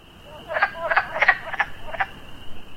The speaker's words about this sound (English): Hearing that unique quacking sound of the wood frog is a good clue that there is a vernal pool nearby and spring has surely arrived.